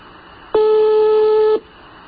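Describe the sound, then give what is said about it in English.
One steady electronic telephone ring tone, about a second long, starts and stops abruptly over a faint line hiss; no one picks up and no voices are heard. “Now he's not answering the phone.”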